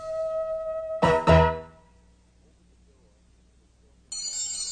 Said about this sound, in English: Over the door, the silver bell sang its jingling little tune.